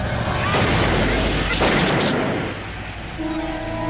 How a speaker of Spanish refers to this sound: Finalmente, su agresor sacó una pistola y disparó contra ella.